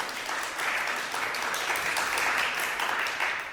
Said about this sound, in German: Da mal ein bisschen unsicheres Klatschen, aber hat jetzt auch gerade jeder geklatscht? Nicht jeder. Nicht jeder, was würdest du sagen? Da hinten die Person nicht. Also okay, 90% haben geklatscht.